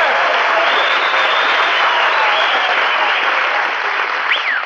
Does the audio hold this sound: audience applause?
yes